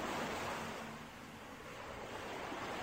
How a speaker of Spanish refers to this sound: Al fondo, escucho el rugido de un mar embravecido azotando las rocas.